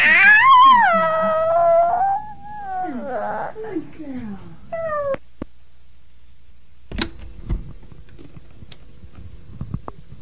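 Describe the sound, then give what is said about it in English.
A voice imitates a cat, giving a long, wavering meow followed by a few shorter mewing calls, then quiet with faint taps and rustling in the background. “And there's a kitty.”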